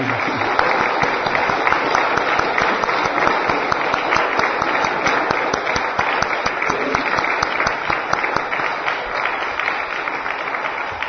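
An audience gives a speaker another round of applause, a dense, even wash of many hands at a consistent loud level with no voices standing out.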